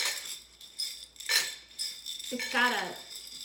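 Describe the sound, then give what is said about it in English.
Dehydrated food rattles lightly inside a container, giving bright, dry clinks and rustles in a few quick shakes, with a thin, high-pitched texture and no heavy thud. “It doesn't have a thud. It doesn't sound dense. It just sounds very light.”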